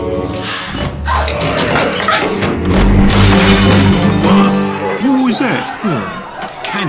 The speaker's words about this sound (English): A candle? What? Fell from the chandelier up there, see it swinging?